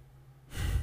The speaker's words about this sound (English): I don't know why I took such a deep breath. I looked at the timer while I was breathing.